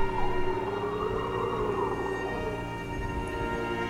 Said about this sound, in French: Vous entendez le vent qui hurle ? Ce sont les âmes qui hurlent.